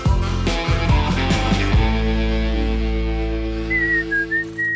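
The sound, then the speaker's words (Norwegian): Someone whistles a short, wavering tune near the end, thin and fairly faint above a loud, steady droning tone that fills the background. No one speaks. “Plystrer du?”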